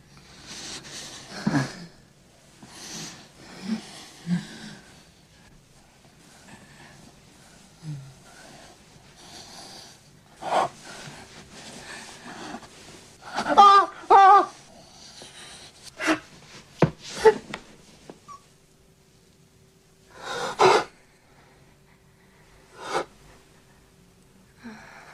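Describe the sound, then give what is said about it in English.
A man whimpers and gasps during sex in short, sharp bursts: breathy snorts, wheezes and strained high cries scattered irregularly between quiet pauses, fairly loud, with no talking. “He really does whimper like a dog, like a sharp, whimpering dog.”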